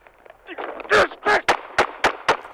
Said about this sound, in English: We want to warn you, the following audio contains gunshots.